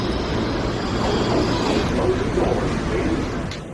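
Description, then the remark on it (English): A New York subway train rumbles along on a 45-minute ride in a steady, loud roar, the mechanical drone and clatter of the ride continuing without pause, with the noise easing slightly at the end. “These nondescript glass boxes that we probably should have figured out don't make for great B-roll before a 45-minute subway ride.”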